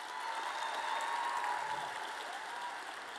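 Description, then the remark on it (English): Steady applause from an audience as five judges are introduced, a dense wash of many hands clapping at an even level for the whole few seconds, with no voices rising above it. “A round of applause.”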